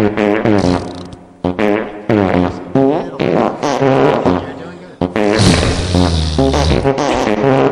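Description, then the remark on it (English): A voice produces a long string of loud, wet raspberry noises imitating farts, made live on the radio, sputtering and buzzing, with brief pauses and shifting pitch between bursts. “who has agreed to come in and make live fart sounds with us. Can we hear a fart sound?”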